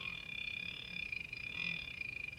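A machine called Charlie, commanded to whimper, gives a steady, high-pitched whimpering whine with a slight rattling flutter underneath, holding continuously and fairly quietly for a couple of seconds with no voices.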